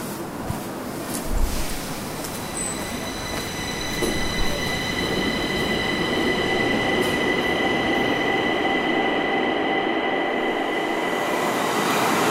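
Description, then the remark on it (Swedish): A subway train rolls steadily along the track between Gamla stan and Rådmansgatan stations, its constant low rumble overlaid with sustained whining, squealing tones from the wheels and motors, filling the whole stretch without any voices. “Men de har bestämt att ta tunnelbanan och dit är det ett par minuters promenad härifrån.”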